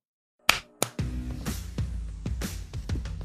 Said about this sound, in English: Do you want to go to time.is? Do a little clap? Yeah. All right, I'm there. Let's do 18.